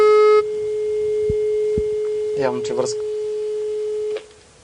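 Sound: phone line busy tone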